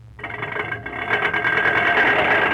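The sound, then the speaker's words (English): A car engine starts up abruptly as the car is brought in for a sales demonstration drive, and keeps running with a steady, buzzing mechanical whir and low rumble, growing slightly louder over a couple of seconds. No one speaks. “Bring the car in.”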